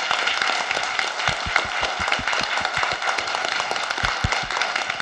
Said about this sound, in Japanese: 部員の皆さんにもう一度大きな拍手をお願いいたします。